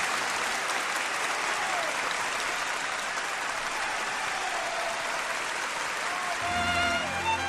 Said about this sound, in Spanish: Año 1972, Hollywood. Charles Chaplin. ¿Esos aplausos eran para él? Sí, esos aplausos son para uno de los mayores genios del arte en general, de uno de los mayores genios de la historia, que es Charlie Chaplin.